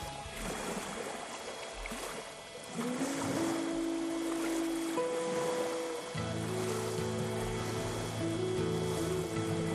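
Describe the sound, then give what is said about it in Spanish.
A steady, hissing rush of ocean waves washing on a shore, soon joined by sustained low musical tones that swell in and hold beneath the surf. No one speaks. “Pero también con el plácido sonido de las olas como telón de fondo.”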